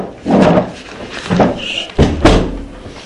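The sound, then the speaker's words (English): Creaks and shuffling movement lead up to a door being closed, ending in a sharp latch click followed by a solid, low thud that lingers briefly. “Now we'll close the door if we can, so that'll give us a little bit more.”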